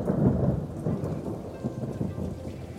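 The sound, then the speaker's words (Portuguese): Deep, rolling thunder rumbles continuously beneath a steady wash of heavy rain falling on a meadow, loud, with no voices present. “Nuvens pesadas como montanhas de chumbo engoliram o sol. E uma chuva impiedosa desabou sobre o prado.”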